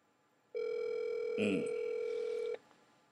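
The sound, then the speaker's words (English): A single steady electronic ringing tone from an outgoing phone call, lasting about two seconds with a brief click partway through, then cutting off into quiet. “Let me call my dog Cam. See if he answer the phone.”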